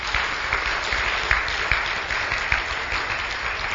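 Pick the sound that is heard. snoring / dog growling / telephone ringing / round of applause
round of applause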